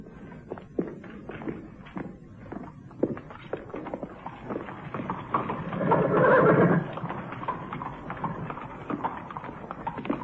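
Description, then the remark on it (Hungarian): A horse pulling a closed carriage, with one man at the horse and another at the door, whinnies loudly near the middle while hooves clip-clop steadily throughout, the rhythmic hoofbeats of a walking horse, with no voices. “Zárt kocsi, Holmes. Egy ember a lónál”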